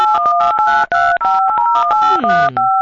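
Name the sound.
telephone keypad dialing tones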